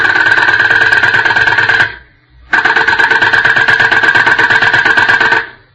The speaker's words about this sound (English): What's that, miss? Is that a drill? Yes, the doctor is working on a patient.